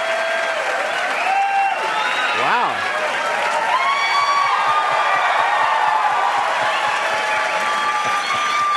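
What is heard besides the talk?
audience applause and cheering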